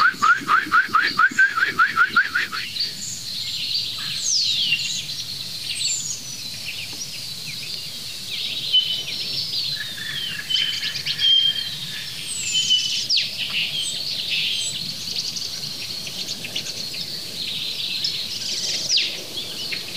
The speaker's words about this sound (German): Da kommt der wilde Paarungsruf des Schwarzbeches durch.